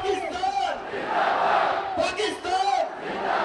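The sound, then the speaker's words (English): A large crowd of Pakistani spectators bellows the chant "Long live Pakistan" in unison at the Wagha border crossing's flag-lowering ceremony at dusk, voices rising and falling in repeated swells, loud and dense with overlapping shouts. “As the crowd bellows, "Long live Pakistan," black-clad Pakistani rangers stomp closer and closer to their Indian counterparts, heels clicking.”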